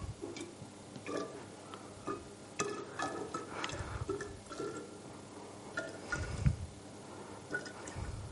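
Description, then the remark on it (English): Liquid pours into a container with irregular splashing and dripping, a fairly quiet trickle broken by small taps and plinks over several seconds, with no talking. “So let's just pour it into this and see what happens.”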